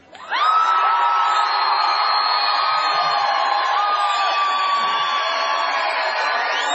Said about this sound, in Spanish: Entonces vamos a hacer una prueba. Vamos a ver. Primero van a saludar los de adelante a los gritos. A ver.